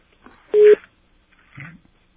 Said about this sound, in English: There's two kinds of rings with this phone number. Very strange.